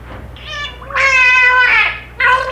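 A whale making a squeaky, wavering attempt through its blowhole to imitate a spoken human name, rolling almost into the water to muffle the sound: three loud, reedy, high-pitched whine-like calls, the middle one longest, with no speech.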